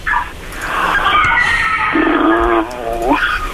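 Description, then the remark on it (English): A person imitates a cat's meow on Radio 1: a drawn-out, fairly loud vocal wail whose pitch wavers and slides, ending on an upward swoop. “People are going to be going meow at Radio 1 for years now.”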